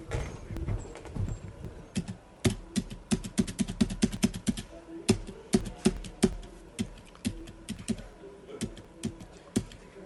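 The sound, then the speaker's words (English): Rapid clicking of keys on a computer keyboard, fairly loud, in uneven bursts with brief pauses, no voices present. “Can I just use the space bar on the left? Why are you doing this? Use the keyboard.”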